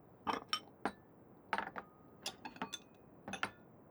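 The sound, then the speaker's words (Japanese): Dishes clink and clatter as they're handled while being cleared away to be washed, a quick scattered series of sharp knocks and chinks, with short pauses between clusters and no talking. “それじゃあ、私洗うから、お皿だけ持ってきて。”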